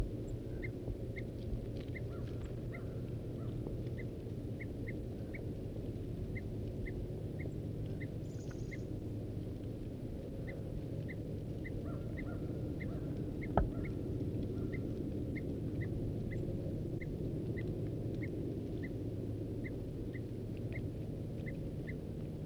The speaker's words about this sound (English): These are alarm notes of the male.